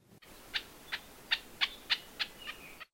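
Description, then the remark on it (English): Later in the day, an elepaio gives a series of about eight soft, sharp chuck notes at a slow, steady pace, each brief and bright, over a faint hiss of background noise. “Here is another elapio chuck later in the day, softer and with a slower cadence.”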